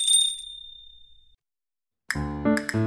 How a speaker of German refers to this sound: weil ich aus einer Glocke spring. Kling, klang, kling, du klopfst daran nur einen Ton. Kling, klang, kling, und kling, da steh ich vor dir schon.